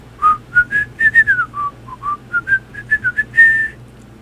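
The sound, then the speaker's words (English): Someone whistles a lilting tune, with a quick run of clear, bright notes rising and falling in a bouncy rhythm, ending on a longer held note. A low hum sits underneath. “what's even worse is whistling …”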